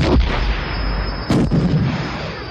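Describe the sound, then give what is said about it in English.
Two loud, sharp blasts of quad-link starfighter laser cannon fire hit a fighter approaching a Corvette, one right at the start and another just past a second in, over a dense, roaring rumble with a thin steady whine. No voices. “The fighter approaching the Corvette was hit by two quad-link bursts.”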